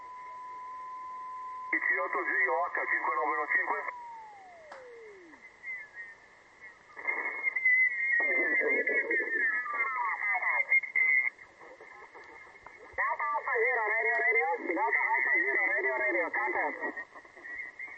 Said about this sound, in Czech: On spolu se svým signálem vysílá takový ten rachot kompresorový a o to si snižuje vlastně odstup signálu šum. Jo, ačkoliv se to zdá, že je to účinný, tak naopak. No ale to je jeho věc.